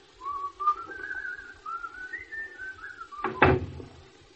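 Someone whistles a wavering tune for a few seconds, then a door shuts with a single solid thud near the end as people leave through it.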